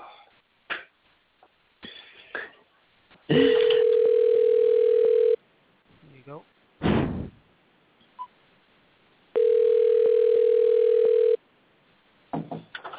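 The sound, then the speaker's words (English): A steady, mid-pitched house phone tone sounds twice as a call is placed, each burst about two seconds long with a pause between, while brief coughs and rustling sounds fill the gaps. “All right, and go ahead and call in on the house phone.”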